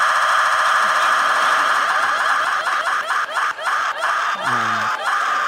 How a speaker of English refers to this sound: To the elected leaders who have lended some credibility to this show, we replace the ticking sound of our wheel with the sound of a woman screaming.